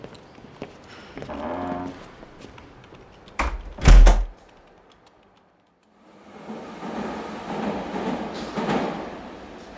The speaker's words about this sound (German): Einige Stunden später stehen die drei Gründer im U-Bahnhof und warten auf den Zug